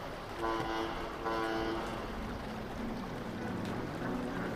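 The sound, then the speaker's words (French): A steamboat whistle sounds two short, moderately loud blasts in quick succession over a steady rumbling background of engine and water noise, with no one speaking. “Comme le voyageur, à la fin de cette nouvelle, il est temps de reprendre le bateau à vapeur, sauter dans la chaloupe, s'éloigner de la rive.”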